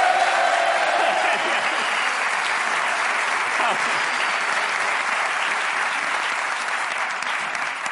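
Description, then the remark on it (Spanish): Sustained audience applause, a dense steady wash of many hands clapping at even loudness for several seconds, with a brief tone audible near the start. “un aplauso para Ricardo y Grison, que han venido a tiempo”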